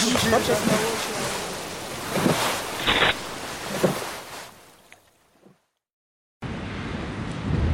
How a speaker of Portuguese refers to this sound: O barco continua em alta velocidade e os pescadores desesperados agarram-se a ele.